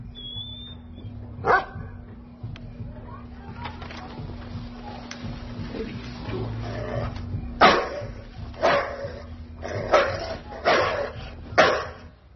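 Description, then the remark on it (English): A dog barks and yips in sharp, repeated bursts, one early yelp followed by a cluster of five or so loud barks near the end over a steady low hum. “Somebody lose a dog?”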